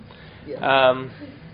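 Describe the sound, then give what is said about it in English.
A single sharp sneeze bursts out, loud and brief with a voiced, throaty edge, surrounded by quiet. “Gesundheit.”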